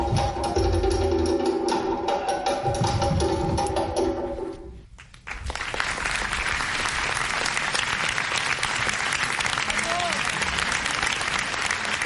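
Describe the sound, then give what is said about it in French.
Music with sustained tones plays for several seconds, stops briefly, and then a crowd breaks into loud, steady, dense applause with some cheering that continues to the end, acclaiming Burkinabé choreographers Sedi Boro and Salia Sanou after their dance piece at the Festival d'Avignon in Avignon, France. “Acclamés par la foule, Sedi Boro et Salia Sanou sont enthousiastes.”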